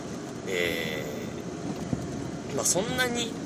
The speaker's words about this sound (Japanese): 今もうエアコンは入ってるんですが、ノイズとかどうでしょうか。